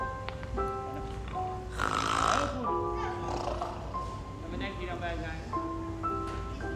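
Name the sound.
imitated snoring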